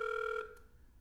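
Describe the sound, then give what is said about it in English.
A steady electronic ringback tone buzzes over a phone line on an outgoing call made around 1:30 in the morning, then cuts off, leaving faint line hiss. No one speaks. “It's 1:30 in the morning right now. So we're calling him pretty late.”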